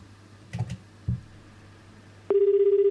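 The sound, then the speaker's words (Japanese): A couple of soft handling thumps, then the ringback tone of an outgoing call to a listener who had written down their phone number: a steady, warbling buzz that comes in loud and continues to the end, with no voices. “誰だ、誰に電話かけたんだ。”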